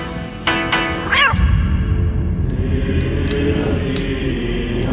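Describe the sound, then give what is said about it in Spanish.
A single short cat meow rises and falls in pitch, followed by a steady, rumbling background noise with a few faint clicks and knocks. No one speaks. “Pon al menino cerca de la alacena para que espante a los ratones.”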